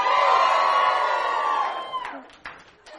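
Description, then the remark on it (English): A large church audience screams and cheers loudly for about two seconds to show appreciation for a clean church, a dense roar of many voices that quickly fades into scattered whoops and a few lingering shouts. “I want you to scream if you appreciate you didn't clean the toilets.”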